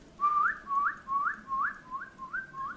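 A person whistles a series of about seven short, rising notes in a steady, evenly spaced rhythm, fairly soft and high-pitched, with no talking, whistling to relax a horse while it urinates.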